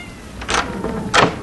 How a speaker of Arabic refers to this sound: نعم يا أبي، ولولا أن سمعت مواءها لما فتحت لها الباب لأدخلها وأطعمها.